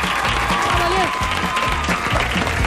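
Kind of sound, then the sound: crowd, audience applause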